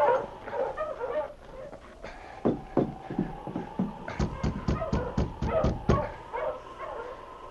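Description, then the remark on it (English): A sled dog team, halted in front of a cabin, barks excitedly in quick overlapping bursts, with a steady rhythm of sharp yips mid-clip, while thin whining and whimpering carries underneath, fairly loud. “Later that same afternoon, a bearded man traveling by dog sled halted his team in front of the cabin”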